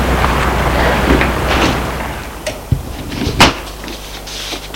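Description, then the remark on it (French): The door to a building's entrance passageway is opened over a steady low hum, with a few sharp knocks and a brief latch-like clack near the end, then a faint rattle. “Elle ouvre la porte de l'allée.”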